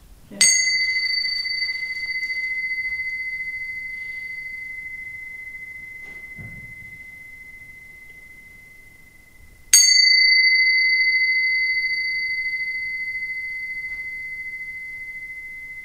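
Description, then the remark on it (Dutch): A small bell is struck twice, about nine seconds apart. Each bright, high ring rings out clearly and fades slowly over a quiet background, with no talking. “Die klokjes, hè?”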